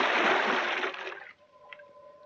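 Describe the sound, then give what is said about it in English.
A scuba diver with an air tank, face mask and mouthpiece plunges into the water over a deep area near Point Dume: a loud rushing splash for about a second, then it drops away to quiet underwater gurgling with a faint steady hum. “Then I tested the free flow of air from my tank and dove.”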